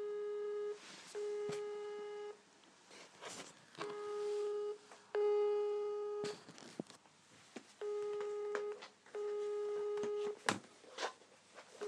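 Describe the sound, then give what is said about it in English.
A telephone busy tone after the caller hangs up pulses on and off in steady, evenly spaced beeps, thin and slightly harsh as if heard over the line, with faint clicks and line noise between the bursts. “He's gone. He's in too much of a hurry to pick up the phone.”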